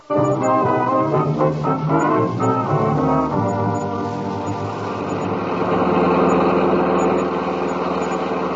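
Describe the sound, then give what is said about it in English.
A car engine in the radio drama Dangerous Assignment runs loudly and steadily for several seconds, its low droning hum sometimes pulsing at first and then settling into a smooth, continuous roar, with no voices over it. “My poor car.”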